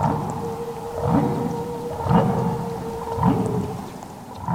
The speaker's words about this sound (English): Or it was followed by this other whale sound. And then they'd write down a time code.